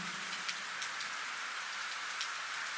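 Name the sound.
rain falling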